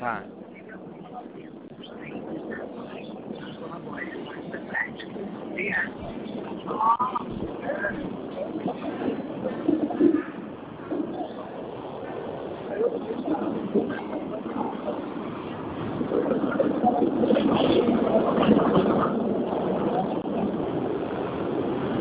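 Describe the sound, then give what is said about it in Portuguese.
Steady, rumbling roar of a moving subway car, swelling louder toward the end, with indistinct voices murmuring underneath and occasional squeaks and rattles. “Eu estou dentro do metrô, não estou escutando nada aqui.”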